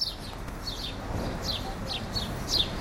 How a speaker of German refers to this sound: Dieses Chilp, Chilp, wie der Vogelkundler es beschreibt, ist der Spatzenruf. Hier in den Hecken am Rand der Pestalozzi-Wiese an der Bahnhofstraße chilpt's noch gewaltig.